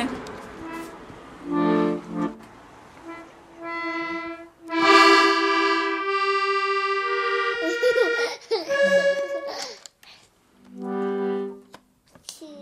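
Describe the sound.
High-pitched voices of three small children, aged 7, 4 and 2½, fill a busy home in the evening: drawn-out wails, squeals and giggly babble come in close, overlapping bursts, with a couple of brief lulls between outbursts.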